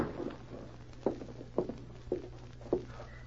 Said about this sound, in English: She stopped suddenly as she heard a light tap on the door.